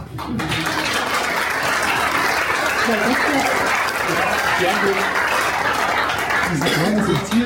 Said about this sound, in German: Die schönste Art, sich lautstark zu äußern, ist natürlich immer Applaus. Ich weiß nicht, ob Sie das können.